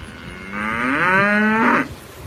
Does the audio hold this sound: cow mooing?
yes